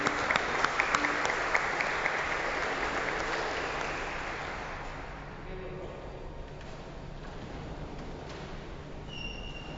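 A large audience applauds for all the grandparents in a broad, dense burst of clapping that is loudest at the start and gradually thins and fades, with echo and faint background murmur.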